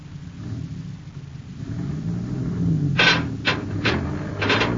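A heavy truck engine rumbles low and steady as the truck pulls straight ahead, then a series of harsh metallic scrapes and grinding rasps bursts out in the last seconds as an Endurium beam is dragged loose.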